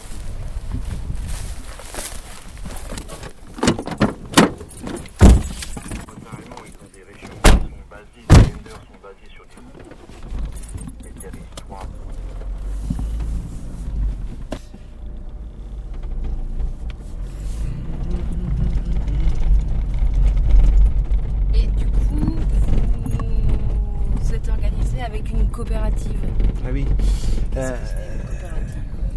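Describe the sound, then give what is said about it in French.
Keys jingle and a few sharp thumps like car doors shutting, then a low engine rumble starts and steadily swells into continuous driving noise, with people talking in French now and then. “On reprend la voiture, là?”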